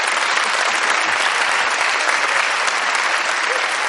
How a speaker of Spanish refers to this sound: no aplaudáis eso, que está feo.